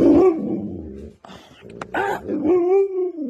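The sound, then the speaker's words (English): A dog named Manson makes drawn-out, groaning, talkative vocalizations, said to sound a little like Chewbacca from Star Wars, rising and falling in pitch with whiny yips and a growly, moaning quality, fairly loud, with no other sounds. “She says Manson sounds a little bit like Chewbacca from Star Wars.”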